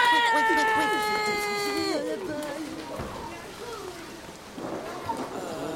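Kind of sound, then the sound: nature, rain starting to fall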